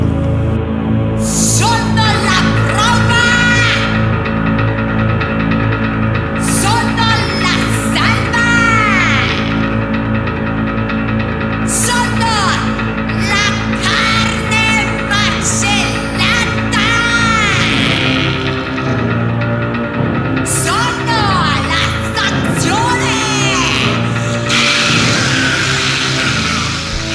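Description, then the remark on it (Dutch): A woman playing the piano shrieks and wails more than she sings, her voice swooping up and down in pitch over loud, dense, sustained piano chords that continue throughout. “Op het podium zit ze aan een piano, helemaal in gothic kleren en ze schreeuwt meer dan ze zingt.”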